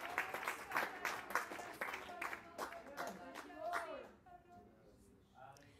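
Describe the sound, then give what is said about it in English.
An audience claps and applauds to the Lord, a dense stream of sharp hand claps that is loudest at first, thins out and fades after about four seconds, with voices calling out over and after it. “Lift your hands, clap your hands to the Lord.”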